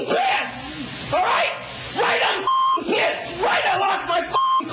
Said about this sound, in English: And I can't even with the beeps, I can't play it.